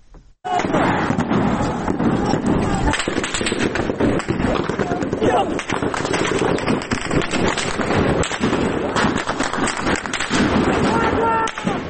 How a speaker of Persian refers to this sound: و همینطور در پیرانشهر که صدای ممتد رگبار گلوله ها در ویدیو کاملا مشهود هست و پناه گرفتن معترضان زیر این رگبار گلوله ها.